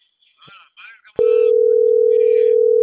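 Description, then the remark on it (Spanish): A loud, steady telephone busy tone cuts in abruptly after a moment of muffled talking and drones on unbroken until the end, as a caller dials from another phone and gets no answer. “te estoy marcando del otro teléfono, pero no me contestas.”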